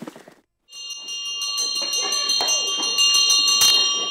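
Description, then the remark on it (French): A brief murmur of voices, a short pause, then a loud electric school bell rings continuously and steadily until the end. “Quand ça sonnait la cloche, alors là, c'était le rassemblement, puis tout le monde en ligne, et puis on attendait qu'ils nous fassent rentrer tous ensemble.”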